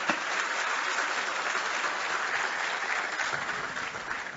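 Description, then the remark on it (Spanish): Sustained applause for Wellington from a sizable audience at a housing project key handover in Hato del Yaque, Santiago de los Caballeros, a dense, steady wash of clapping hands that holds at an even level for several seconds without pause. “Un aplauso para Wellington.”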